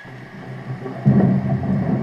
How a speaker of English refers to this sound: Thunder cracks and lightning flashes once more, too close this time, and Ziva jumps and pulls back after all.